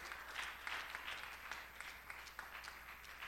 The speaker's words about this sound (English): I think it's right that you applaud one another in your response this morning. God bless you.